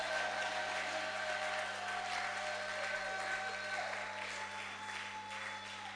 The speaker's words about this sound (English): Can I see you brag and boast on God through your clap and shout?